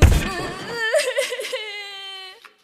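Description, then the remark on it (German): A brief low thud opens, then a high, trembling whimper wavers and quavers before settling into a long, thin, drawn-out whine that fades out. “Und etwas anderes war noch zu hören, sehr schauerlich. Ein leises Schluchzen oder eher ein Wimmern.”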